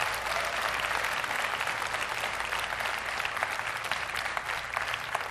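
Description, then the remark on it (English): An audience claps steadily for several seconds as a clap offering to God, a dense, even wash of many hands with no voices rising above it and no pause in the applause. “Would you give God a clap offering?”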